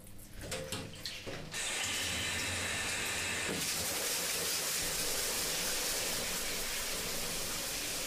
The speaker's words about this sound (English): While he listens to the sound of the water pouring down on his head, his eyes begin to feel heavy. They drift down to the drain, watching the water as it circles around.